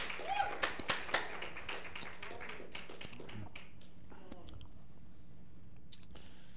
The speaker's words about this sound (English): Let's give a round of applause for our Rebbetzin.